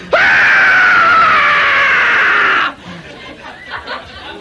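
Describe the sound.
A man's voice imitates his wife's breathing during transitional labor with one long, loud, strained exhale, voiced and slowly falling in pitch for over two seconds. It cuts off abruptly, leaving faint quiet murmurs.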